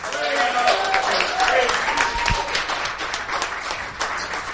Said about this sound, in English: Give the Lord a cheer.